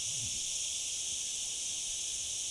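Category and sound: insect, cicadas buzzing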